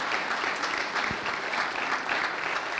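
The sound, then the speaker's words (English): An audience applauds steadily, a dense wash of many hands clapping at once, sustained and fairly loud for the whole stretch with no voices breaking through, in thanks to a pastor and others. “They don't clap like that for me.”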